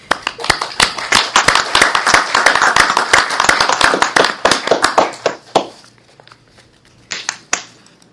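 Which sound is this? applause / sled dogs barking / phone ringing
applause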